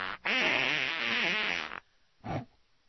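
A long, loud, wavering fart sound effect lasting over a second and a half, followed after a short pause by a brief, lower second toot. No talking.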